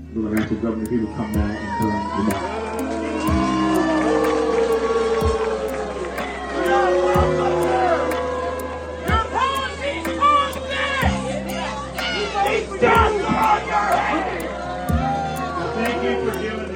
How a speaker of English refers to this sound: Meanwhile, in Florida, Governor Ron DeSantis addressed the community as they gathered for a prayer vigil. As DeSantis approached the podium, some in the crowd prepared to boo.